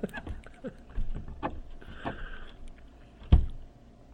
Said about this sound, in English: The squeaky chair. Probably gonna pick that up on the recording. I couldn't hear what they were saying over that chair.